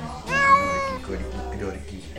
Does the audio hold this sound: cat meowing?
yes